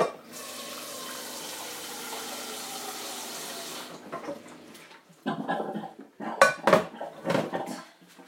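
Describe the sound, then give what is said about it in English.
A kitchen tap runs in a steady, even hiss for about four seconds, then shuts off, followed by loud, irregular clatters and clinks of dishes and cutlery. “Burned myself on the tap.”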